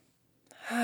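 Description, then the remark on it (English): A short breath drawn in through the nose during a mindful breathing exercise, starting quiet and swelling in loudness over a fraction of a second, with a faint hint of a voice beginning at the very end. “And one more together, breathing in through the nose”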